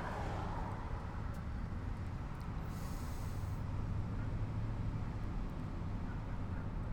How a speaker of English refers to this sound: it's almost 8 o'clock. That's why there's so much traffic. Great. Well, now I'm not going to bitch about traffic, trust me.